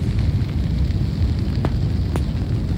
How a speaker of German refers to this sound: Weitere Explosionen. Und noch eine und noch und noch. Ich kann nicht mehr schreiben, ich gehe in Deckung. Noch eine Explosion.